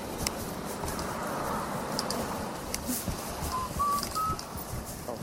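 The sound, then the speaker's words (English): A pet bird gives a few short, thin whistled notes near the end, fairly faint against a steady rustling background hiss, with no talking. “Stop singing and whistling.”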